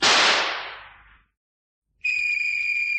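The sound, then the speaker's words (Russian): A single loud rifle shot bursts out and fades away over about a second. After a short silence, a steady, high-pitched ringing whistle sets in and holds. No one speaks. “Кто стрелял? Кого стрелял?”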